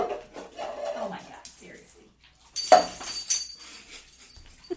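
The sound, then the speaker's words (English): A female dog rummages into something, producing a couple of sharp clattering, rustling bursts of objects being knocked about, following a stretch of muffled voice sounds. “She's a bad, bad, bad dog.”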